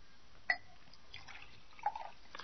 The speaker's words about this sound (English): Would you pour me a glass of water? There's a carafe here on the table.